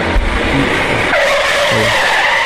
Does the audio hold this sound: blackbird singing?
no